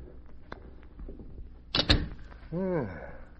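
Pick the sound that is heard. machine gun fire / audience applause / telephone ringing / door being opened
door being opened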